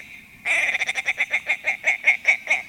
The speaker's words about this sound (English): But the male is another story. Picture those white wings propelling that chunky, rusty body in a long arc over the tundra as he chuckles his way across the tops of the willows.